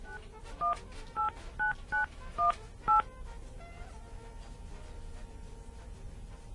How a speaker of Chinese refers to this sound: 电话将转接到语音信箱， 又转接到语音信箱吗？ 我再打一次， 你再打一次。